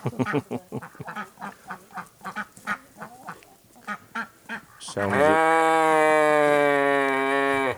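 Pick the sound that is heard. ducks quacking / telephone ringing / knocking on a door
ducks quacking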